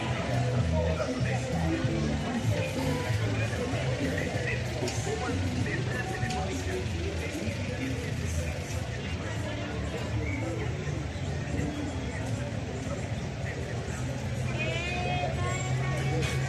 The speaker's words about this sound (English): This is Ciudad de Dios, the City of God, where I change buses. As you can see, lots of people, lots of buses